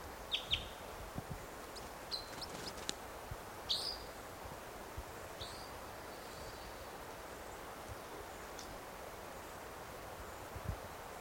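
red crossbill chittering call

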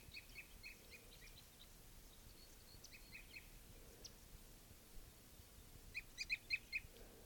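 male bird's flight song

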